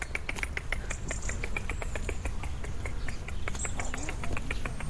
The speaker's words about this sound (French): le rouge-gorge qui est pas loin. C'est un rouge-gorge.